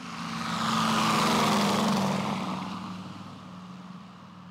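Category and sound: vehicle, propeller airplane taking off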